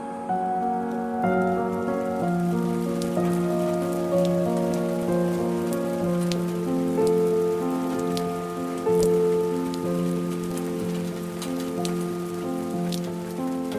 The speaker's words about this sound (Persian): آنقدر محکم که آسمان از ذوق این همه حس عاشقانت اشک بر چشمانش جاری شود، تا بلکه بروم پاک شوم به زیر این باران.